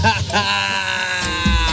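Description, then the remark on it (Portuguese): A voice imitates exaggerated, childlike crying: a sustained, wavering wail with a bleating, trembling quality, loud, running unbroken for the whole short stretch. “Ele tá chorando igual Chiquinho do Chaves!”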